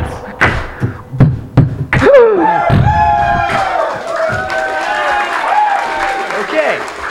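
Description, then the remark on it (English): A few sharp claps and thumps open, then a lively crowd breaks into cheering and whooping applause that carries on loudly to the end. “So drop all your jaws for a round of applause.”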